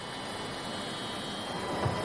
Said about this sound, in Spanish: pero sigue siendo un ruido eléctrico de unos 10 kHz. Le echaré un vistazo al motor. Sí. Aunque los motores eléctricos son mucho más silenciosos, hay pequeñas señales de interferencia.